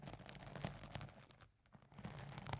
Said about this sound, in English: Each of the fibers scratch in the windscreen of the microphone. And it sounds very nice.